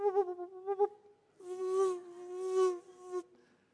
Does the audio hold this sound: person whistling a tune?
no